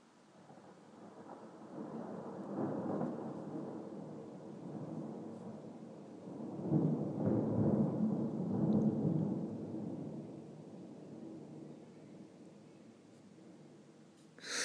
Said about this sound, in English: I don't mind that the rain's calmed down, but give me some more thunder, please. If you don't mind.